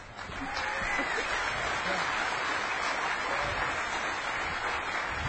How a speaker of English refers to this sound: You're going to be doing a lot of clapping. Keep it up.